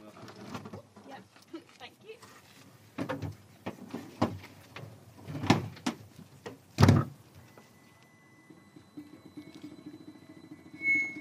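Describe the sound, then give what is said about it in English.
A few sharp clunks and knocks, then a small, white, futuristic-looking solar-powered car starts up with a thin, steady whine and faint squeaking as it pulls away down a racetrack, murmuring voices in the background. “the solar-powered car, Evolution, squeaked off down the racetrack, I found myself scrabbling to describe it.”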